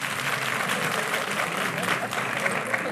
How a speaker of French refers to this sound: Tu as réussi à te faire applaudir trois fois.